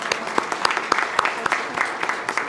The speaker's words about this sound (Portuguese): É mais um motivo de uma salva de palmas, ministra.